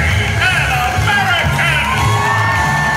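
crowd screaming

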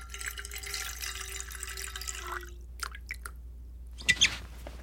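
water being poured

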